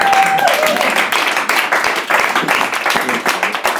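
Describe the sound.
Loud, steady audience applause fills the whole clip, dense overlapping claps with crowd voices and cheering mixed in, and a brief whistle-like tone at the very start.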